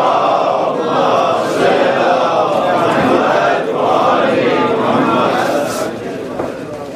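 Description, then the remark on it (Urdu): A large crowd loudly recites salawat, a religious invocation, in unison, many voices merging into one sustained, rolling recitation that carries on for several seconds before easing slightly at the end. “ہمارے دیگر نعرے سلامات, ایک اور بلند تر صلوات پڑھنا.”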